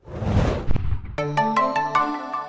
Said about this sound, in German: und huch, hier klingelt es gerade.